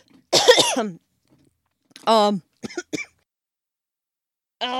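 A person with a summer cough coughs several times in short, harsh bursts separated by pauses: a long raspy cough first, then a cluster of quicker hacks, and one more starting near the end.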